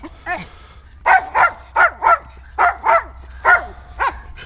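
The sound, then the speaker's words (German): A dog barks repeatedly, about nine sharp, mid-pitched barks, mostly in quick pairs, after one softer opening bark. There is no talking, just a low steady hum underneath. “Ist jetzt Ruhe oder muss ich dich zum Abdecker bringen? Schnauze.”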